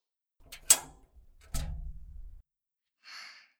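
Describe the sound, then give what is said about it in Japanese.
A dressing-room door at an event venue is opened after a knock: a sharp latch click, then a heavier clunk followed by a low rumbling swing, and a brief soft hiss of air at the end. “はい、今開けますから、待ってくださいね。”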